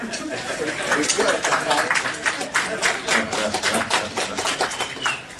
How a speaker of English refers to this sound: Well, you could applaud or something.